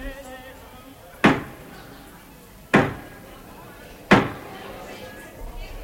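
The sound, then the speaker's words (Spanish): Three heavy, slow knocks on a wooden door, evenly spaced about a second and a half apart, each loud with a short ringing decay over a quiet background, heard while a royal court is gathered at a banquet for a prince's birthday. “Y estaba toda la corte reunida celebrando con un banquete el cumpleaños del príncipe cuando llamaron a la puerta.”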